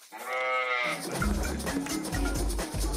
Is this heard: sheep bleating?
yes